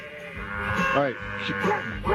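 sheep bleating

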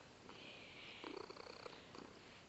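domestic cat purring

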